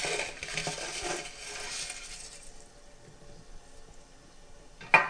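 Dry noodles rustle and clatter into a metal boiling basket over a pot of salted boiling water, a dense scratchy patter that fades over a few seconds, ending with a sharp metallic clink.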